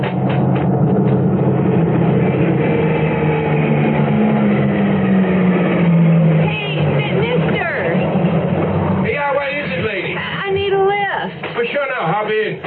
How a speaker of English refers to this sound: Okay, it's a pickup truck. Now get out there and give it the old thumb.